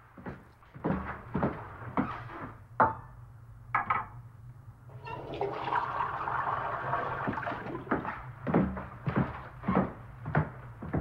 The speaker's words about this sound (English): He puts down the paper and picks up his plate and cup and strolls into a clean and modern kitchen. He puts the cup in the sink and turns on the tap.